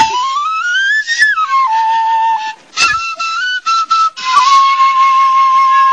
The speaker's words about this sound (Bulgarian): Ето как българин учи европеец да свири на обикновена свирка, докато българите се опитват да се учат да свирят химна на Европа.